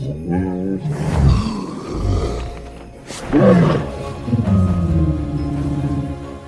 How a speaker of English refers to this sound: In How to Train Your Dragon, the sounds of tigers, horses, and elephants were all used for the dragon named Toothless.